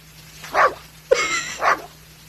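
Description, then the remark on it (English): A black Labrador lets out three muffled, distorted woofs in quick succession while biting at the water stream from a power washer, standing to the side of it, with a brief hiss of spray during the middle bark. No one speaks. “Here's a black lab attacking the stream of water coming out of a power washer.”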